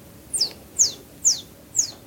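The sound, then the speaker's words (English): Someone imitates a bird call with four short, high-pitched chirps, each sliding downward, repeated at a steady, even pace with quiet gaps between and no talking. “I did the bird noise and everyone was looking around trying to figure out where it was.”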